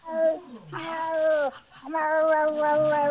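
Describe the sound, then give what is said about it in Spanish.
A person imitates a cat in heat with long, wailing, pitch-bending yowls, two drawn-out cries with a short break between them, loud. “Era un gato en celo.”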